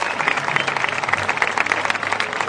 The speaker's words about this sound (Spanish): A ellos, un fuerte aplauso por todo el trabajo que realizan durante todo el año.